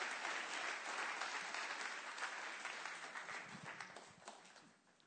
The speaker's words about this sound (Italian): che invitiamo con un grande applauso, che ci predicherà la parola di Dio.